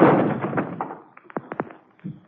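A door is shoved open suddenly with a loud, rushing burst, followed by a few sharp clacks of the latch and a low thud as it settles. No one speaks.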